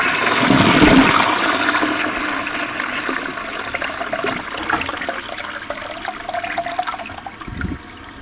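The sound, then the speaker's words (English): A toilet flushes, a loud rushing gush of water that swirls and drains steadily for several seconds before trailing off, with no one speaking. “Here we go. We're going to flush out.”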